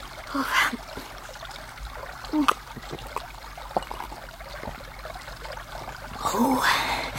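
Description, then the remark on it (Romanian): Water trickles and flows steadily from a fountain, filling a jug, a continuous splashing stream, with brief faint vocal sounds near the start and end. “Apă rece, apă lină, apă sfântă, apă dătătoare de viață. Era fântână!”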